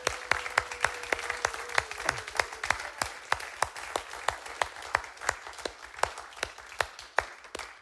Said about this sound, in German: Und ich danke allen FCG-Wählern ganz herzlich, die sich da engagiert haben. Apro, Aufbau, Deko, es ist wirklich einiges geleistet worden. Gebt doch mal einen riesen Applaus.